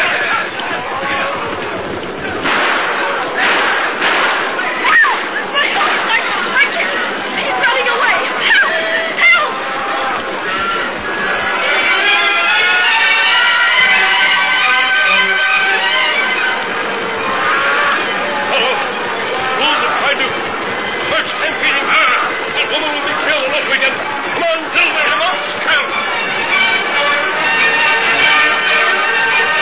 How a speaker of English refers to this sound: Silver enabled the Lone Ranger to thread his way through the raging tide of buffalo and reach the frightened woman and her fear-crazed horse.